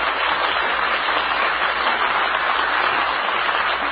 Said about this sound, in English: Let's send them a cheer, shall we? Hope you like it, folks.